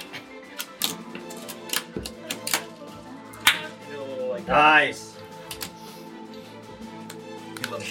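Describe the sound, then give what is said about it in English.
A series of sharp, crisp hand claps cracks out at irregular intervals, with one especially loud snap standing out, while people talk and laugh over and between them. “It was a really good sharp clap.”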